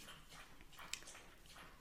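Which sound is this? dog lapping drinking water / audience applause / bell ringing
dog lapping drinking water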